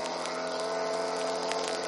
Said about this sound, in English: Boat coming this way.